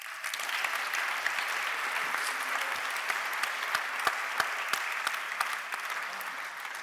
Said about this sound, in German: Applaus für Annelie Bundenbach.